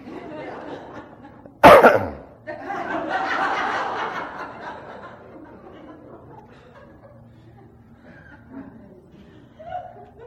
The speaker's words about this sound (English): Or stop coughing.